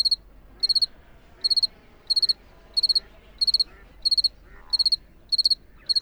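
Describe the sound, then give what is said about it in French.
A two-spotted cricket (Gryllus bimaculatus, the Provence cricket) chirps close by in a steady rhythm, short bright pulsed bursts repeating about every two-thirds of a second, at night in Provence beside lagoons along a sea dike, around 12 degrees with a light northerly mistral breeze. “Et là, j'ai placé mes microphones près d'un grillon, le grillon de Provence, Grillus bimaculatus.”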